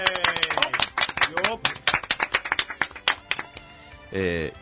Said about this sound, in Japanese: 今日でですね、282回目迎えました。拍手。イエーイ。